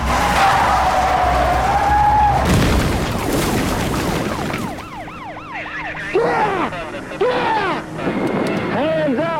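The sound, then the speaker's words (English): A fleeing suspects' car in Texas skids as the driver takes a turn too fast and loses control, with a loud, wavering tire screech and engine roar, then a siren starts up, its tone sweeping rapidly up and down in a repeating yelp. “The driver takes the turn too fast and loses control.”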